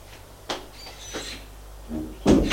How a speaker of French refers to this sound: La porte s'ouvre, c'est la bonne.